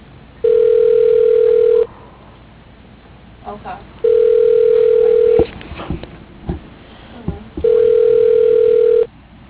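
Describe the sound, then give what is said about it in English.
Three steady ringback tones of an outgoing phone call, each lasting over a second with pauses between, heard through a narrow telephone line with faint clicks and line noise in the gaps. “Why can't I get anyone on the phone?”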